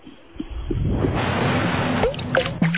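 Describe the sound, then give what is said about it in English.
Water sloshes and gurgles inside a truck, a continuous churning wash with a few brief splashy surges, moderately loud, with no talking over it. “I hear water. Don't you hear water? Is there any kind of water leak in your truck?”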